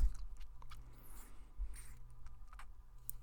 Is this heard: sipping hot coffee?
yes